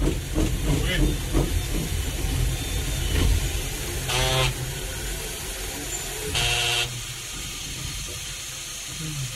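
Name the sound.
steam locomotive hissing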